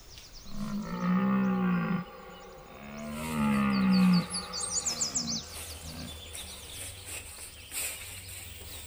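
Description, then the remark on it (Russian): A bear roars twice, loud: two long, deep, rumbling bellows with a short pause between them, followed by quieter growling grunts while birds chirp faintly in the background. “Ой, ты уж, Михайло Потапыч, не серчай. Прости, что потревожил.”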